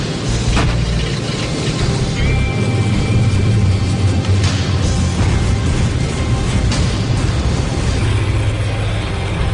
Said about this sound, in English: On approach, AJ decides to keep the backfiring number 2 engine running.